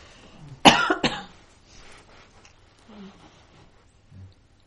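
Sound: coughing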